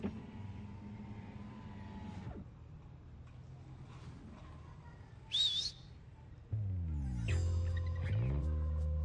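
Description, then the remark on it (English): A single short, shrill human cat-call whistle with a rising-then-falling wolf-whistle shape, given as a signal to a monkey, cuts in briefly over a steady, rumbling engine drone, with no talking. “Cat Whistle.”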